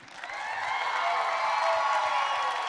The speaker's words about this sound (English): And a round of applause for all the ladies who had the courage to come out and audition and go through this process. It does take a lot.